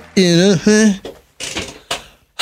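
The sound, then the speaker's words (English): A person makes a strained, drawn-out vocal sound, then a few short mechanical clunks and creaks follow as an office chair in a tiny studio is adjusted. “All my adjustments to my chair are made.”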